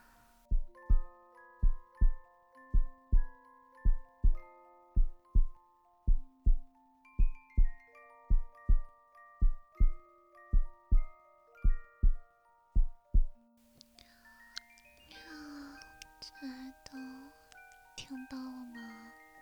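A steady heartbeat, heard as if from the chest, thumps at an even pace for about thirteen seconds beneath soft, chiming melodic tones, then the pulse fades as a person starts talking.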